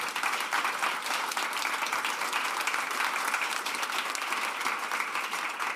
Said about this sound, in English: Please join me in a round of applause for our speakers.